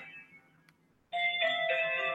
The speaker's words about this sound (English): Sorry about that. Phone rang.